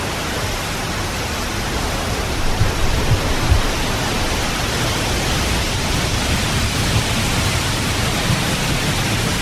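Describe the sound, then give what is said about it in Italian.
A steady, dense wash of sea waves fills the whole recording, a constant hissing roar with little rise and fall, fairly loud, and no voices. “Beh, l'effetto del mare c'è però, eh?”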